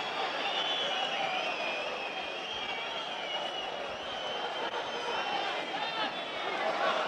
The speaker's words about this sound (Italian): Adesso i fischi per Meret in impostazione.